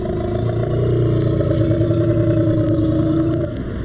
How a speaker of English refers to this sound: Notice the similarity between this growl and this growl, which belongs not to a leopard or a member of the cat family at all, but to the Indian elephant. Here it is again.